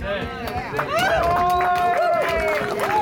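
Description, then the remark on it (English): A crowd at a rally cheers loudly, with sustained whoops and rising and falling voices over scattered clapping, filling the whole three seconds with steady noise. “So, judging by the crowd here today, I think they may have miscalculated.”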